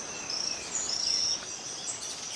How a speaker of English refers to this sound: Okay. That's a poison frog. Wait. Uh-huh. What? Where? The... Okay, that's a poison frog, you said? So it's the scientific name is Epipelobates bollengeri.